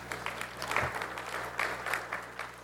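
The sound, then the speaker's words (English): Sparse, scattered clapping from an audience at a software demonstration, a handful of people applauding briefly with irregular claps over a steady low background hum. “I get one applaud.”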